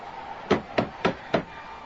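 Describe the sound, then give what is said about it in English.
Four firm knocks on the wooden door of an inn, evenly spaced with a slight hesitation before the last, each a sharp hollow thud over a quiet background with no talking. “I'll try the door.”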